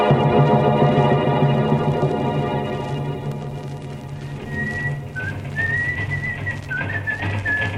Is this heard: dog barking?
no